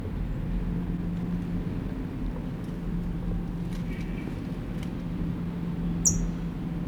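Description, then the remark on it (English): A bird gives one short, sharp, high-pitched alarm call near the end, rising briefly above a steady low rumbling hum that runs throughout. “Still here, alarm call.”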